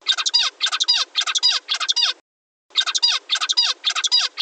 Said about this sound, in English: Yeah, so it's hard to pick up because these birds are singing their songs like remarkably fast. But what you can hear is he sings these four syllables in a row, and then he pauses for a second, and then he sings it again.